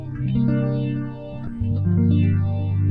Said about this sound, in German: Ja, geil. So Sounds wollte ich haben. Ja. Schön. Phaser-Alarm.